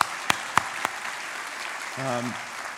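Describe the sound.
An audience applauds in a steady, hissing wash of clapping, with three sharp, louder claps standing out early on and a brief voice calling out over the applause near the end.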